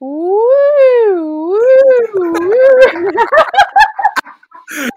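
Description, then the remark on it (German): A voice imitates a siren, sliding its pitch up and down in slow wavering sweeps, then breaking into choppy, wobbling vocal bursts that sound like laughing. “Ich hab mehr eine Sirene im Kopf gehabt, aber.”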